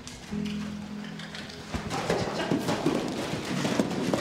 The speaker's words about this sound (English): These animals are so beautiful. Oh my gosh. I'm getting to walk down a road listening to this footsteps of this horse.